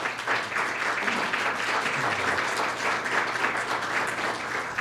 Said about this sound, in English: Let's give them a round of applause for all their time.